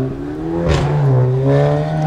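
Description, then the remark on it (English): A five-cylinder car engine revs with a loud, steady droning growl, swelling in a brief rasping burst partway through before settling back into a sustained hum. No one speaks. “Maybe see a bit of 5-cylinder action here.”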